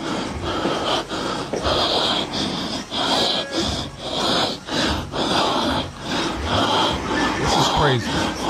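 A man's heavy, rasping breathing, loud and close, repeating in rough breaths about once a second over a noisy, hissing recording for several seconds.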